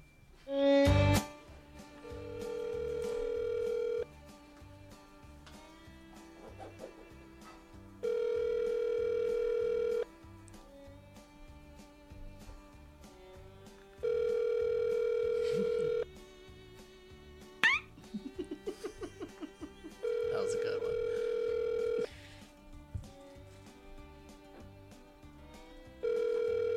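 A phone ringback tone repeats about five times, each steady electronic ring lasting roughly two seconds with long pauses between, going unanswered over faint background noise.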